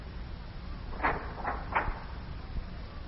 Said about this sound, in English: Well, go on, lad. Open the door to Yuki's office and walk right on in.